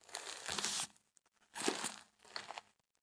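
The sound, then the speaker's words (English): Crinkling plastic rustles in three bursts, coming down a hallway in a remote Airbnb: a long one, then two shorter ones after brief pauses. The sound is crisp and papery, with no voices. “No, it sounds like crinkles coming down the hallway.”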